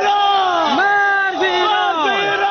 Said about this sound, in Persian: شعارهایی که علیه ایران سر داده می شود از سوی باشندگان ولسوالی سرحدی کوهستان ولایت هرات است. از محلی که این شعارها بلند می شود تا نقطه سرحدی میان افغانستان و ایران تقریبا 20 کیلومتر فاصله دارد.